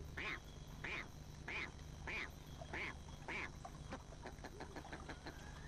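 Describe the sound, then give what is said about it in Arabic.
A duck quacks six times in a steady, evenly spaced series, loud, followed by a few softer clicks over a constant low rumble in the background. “سوف نعطيكم معلومة أخرى، حيواننا السري موجود بالقرب من الماء. يحتاج البط الماء للحياة، وكالبجع يتغذى من الأنهار والبحيرات.”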